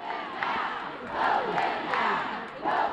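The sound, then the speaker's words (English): Hundreds of teachers protesting pension reform legislation yell the chant "Vote them out" in unison on the front steps of the Capitol. The chant rises in loud rhythmic bursts of many overlapping voices over a continuous background roar. “Hundreds of teachers yelled, "Vote them out," on the front steps of the Capitol.”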